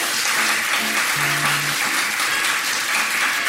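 The audience at a storytelling night applauds steadily, a dense wash of clapping at even loudness throughout, with a few faint tonal voice-like murmurs underneath early on.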